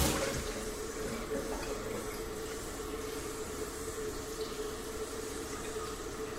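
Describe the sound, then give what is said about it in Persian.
Lukewarm water pours steadily onto meat in a pot in a continuous, rushing stream, fairly loud, with a faint hiss and splash running throughout and no talking. “حالا من یه موقعی به شما گفته بودم که آب سرد روی گوشت نریز، الانم اون کار رو نمیخوام بکنم، ولی میخوام آب ولرم بریزم روی گوشتم.”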